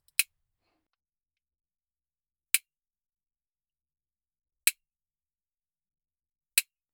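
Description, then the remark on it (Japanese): Four sharp, crisp clicks of nail clippers snipping the claws on the left front paw of a calm cat named Nyanta, spaced about two seconds apart, with silence between each snip and no voices. “爪切りもシャワーも気に入ったのかな？”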